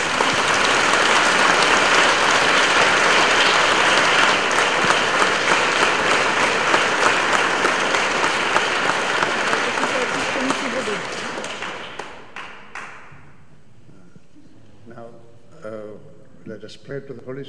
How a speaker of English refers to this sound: So let us give a clap for Jesus now. Tak mu pojďme zatleskat. Teď.